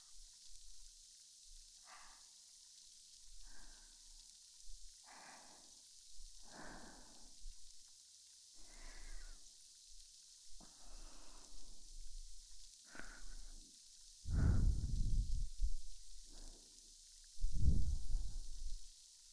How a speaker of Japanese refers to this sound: めっちゃたくさんの小さな小さな泡がはじけて消えて、はじけて消えて